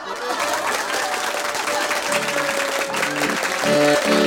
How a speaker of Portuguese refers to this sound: E agora com vocês, Ivan Taborda e seus 40 anos de pataquadas. Vamos aplaudir!